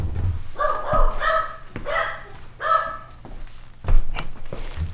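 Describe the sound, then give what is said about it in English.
A dog barks in a few short, bright bursts, some clustered close together, with pauses and soft thumps between them and a low background hum. “Okay, the barking's not totally over, but it's going to go down now.”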